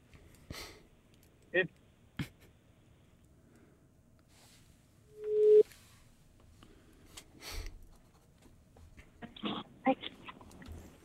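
A single steady ringing tone from an outgoing phone call placed from a studio sounds once, loud and clear for about half a second, surrounded by quiet rustling, breaths and small handling noises.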